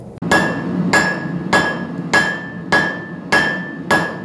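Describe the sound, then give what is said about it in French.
A young ironworker's hammer strikes an anvil seven times in a steady, even rhythm, each loud clang leaving a bright metallic ring that hangs between blows, with the low hum of a forge underneath, at the Forge du Chêne, a forge in a former barn in Brennilis in the Monts d'Arrée. “un jeune ferronnier qui a décidé de poser son marteau et son enclume à Brennilis dans une étable qui se prénomme aujourd'hui la Forge du Chêne.”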